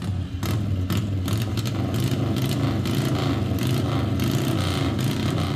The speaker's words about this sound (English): We should hear this. We should hear that one. Other race engines are XR750 that we had for years and years.